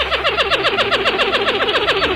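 A pied-billed grebe's greeting rattle: a loud, rapid, steady run of short, clipped notes, each sliding slightly downward, repeated about ten times a second with no voices over it.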